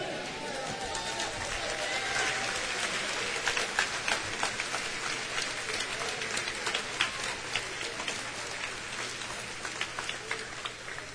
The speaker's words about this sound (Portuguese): Eles só não bateram palmas. Vocês bateram palmas. E nós celebramos a Deus.